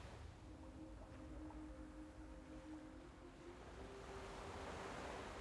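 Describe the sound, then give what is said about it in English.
Continuous wash of ocean waves at night, a steady rushing surf with no distinct breaks, quiet and even throughout, with a faint low droning hum running underneath and no voices. “You rise above each wave, unbothered by the salt in your mouth and the darkness all around you.”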